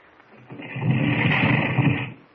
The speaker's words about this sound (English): Now, here. Stand back a little. I'll press the button that opens this stone door.